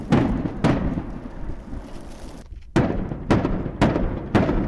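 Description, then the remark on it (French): Combat explosions from fighting several kilometres away, heard in Sudzha: six sharp, booming blasts arrive at irregular intervals, two early and four in quicker succession later, over a continuous low rumble with no voices. “Périodiquement, le son des combats qui se déroulent à plusieurs kilomètres se fait plus précis.”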